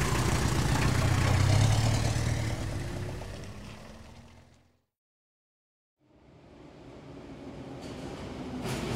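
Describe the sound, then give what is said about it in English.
A London taxi's diesel engine idles with a steady low rumble, then fades to a second of silence before another broad mechanical rumble rises. No one speaks. “This is a London taxi.”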